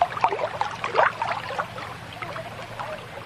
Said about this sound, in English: It brings a different element to it, because you're really, instead of having, like, in class they play the soothing music, the music out here is just the waves to the board, and then you don't hear that every day, yeah.